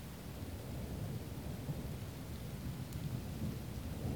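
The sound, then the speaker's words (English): Steady, dense roar of heavy rain fills the whole recording, with a deep low rumble of thunder rolling underneath it; no voices, just a constant wash of storm noise. “And even if they are, the rain will mask anything, right?”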